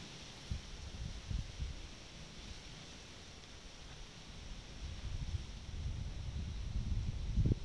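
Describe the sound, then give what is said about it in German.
A soft, steady wind rustles through leaves, with low rumbling gusts that swell and grow stronger toward the end. No voices, just a continuous outdoor hush. “Eine Weile nichts tun, als nur dem Wind zu lauschen.”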